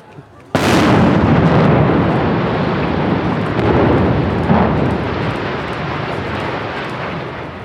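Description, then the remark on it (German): A single powerful demolition blast erupts suddenly after a quiet moment, then rolls on as a long, heavy rumble that slowly fades without fully dying away, as a pressure wave arrives and the structure falls, raising dust. “Es hat geknallt. Also man hat es explodieren gesehen, hat noch nichts gehört.”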